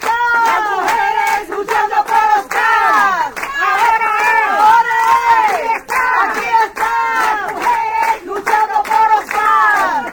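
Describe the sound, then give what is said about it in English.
A crowd of women chants in Spanish, "ahora es, aquí están las mujeres luchando por Oscar," loud and continuous, their high voices rising and falling in repeated rhythmic phrases with brief dips between lines. “We started in El Barrio, and we chant for 34 minutes now because it's 34 years, and it sort of sounds like ahora es, aquí están las mujeres luchando por Oscar.”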